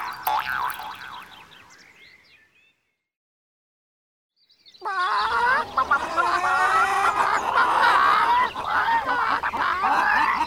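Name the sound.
chickens clucking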